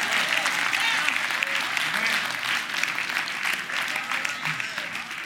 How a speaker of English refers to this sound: Oh, yeah, it's time for another praise break. It's time for clap your hands and tell the Lord how good he is.